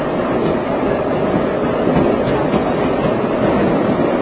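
A London Underground train with its windows open rattles steadily through a tunnel, a loud, continuous roar of wheels and clattering cars with no pauses.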